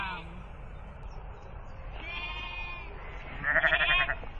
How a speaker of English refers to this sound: It's our first sheep field of the day after leaving Longhope, heading north across the side of a valley with bountiful numbers of lambs bounding around looking inquisitive. And dare I say, cute. In fact, there's a lamb staring at me now.